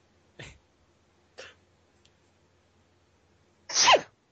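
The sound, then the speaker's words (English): A loud sneeze right into the mic, preceded by two short sharp breaths a second apart, then a brief pause before the burst. No talking. “way to adorably sneeze into the microphone.”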